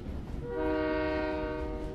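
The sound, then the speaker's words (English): A train horn sounds a long, steady, chord-like blast over the heavy low rumble of a passing train, loud, with no voices. “Without major highway access in Madawaska, paper shipments were made by train.”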